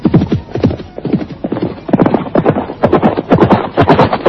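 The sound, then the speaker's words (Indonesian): A horse, ridden at full speed toward the back gateway of a palace compound, gallops in a fast, steady rhythm of heavy hoofbeats, the pounding loud and continuous throughout with no voices over it. “Mahisa Pawagal melarikan kudanya menuju pintu gapura belakang. Binatang itu berlari kencang bagaikan terbang.”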